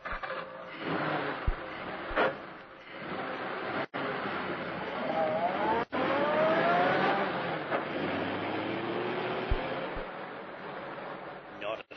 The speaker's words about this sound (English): The two men pushed the automobile down the slope of the road, jumping in when the car began to gather speed.